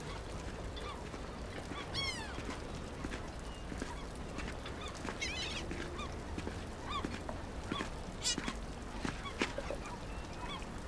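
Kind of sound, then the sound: bird, seagulls calling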